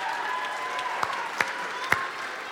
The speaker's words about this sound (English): And this is a team of people from your church who are consistently at the downtown mission every Tuesday night serving the least of these in our community. Can we just give them a round of applause right now?